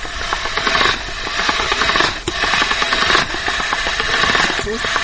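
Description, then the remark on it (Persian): An electric meat grinder mincing meat with garlic that was cooked earlier in a steam pot: a loud, steady motor whir mixed with rough, rasping churning, with brief dips in the noise every second or so as the meat feeds through. “خب آل گوشت امرای سیر در دیگ بخار که قبلا مجهوش شدیم او را از ماشین گوشت میکشیم.”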